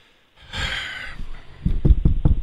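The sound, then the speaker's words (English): A breathy rush of air, then four quick, sharp raps on a wooden surface in an uneven rhythm, fairly loud, with a hollow low thud to each knock. “Is this real wood that I'm knocking on?”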